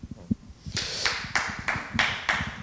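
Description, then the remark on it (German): A short burst of audience applause starts after a moment of low murmuring, with steady overlapping claps that rise and hold at moderate loudness for about two seconds. “Also Sie dürfen auch klatschen, natürlich.”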